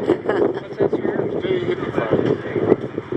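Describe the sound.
Wind gusts roar across the microphone in a steady, buffeting rush, with indistinct voices half-buried beneath the noise.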